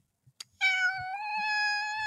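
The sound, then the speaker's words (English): A cat that has just jumped up onto a person's lap lets out one long, drawn-out meow, steady and fairly loud, preceded by a couple of soft clicks and taps. “Hi, my cat just jumped up on my lap.”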